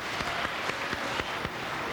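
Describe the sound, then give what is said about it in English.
An audience of non-smokers applauds themselves in a steady wash of dense clapping, with a few sharper claps standing out at a fairly even rhythm. No one speaks over it. “Non-smokers applaud, applaud yourselves.”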